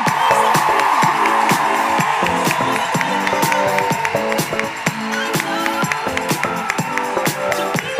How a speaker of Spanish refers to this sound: Quiero un aplauso gigante para Lala Chus.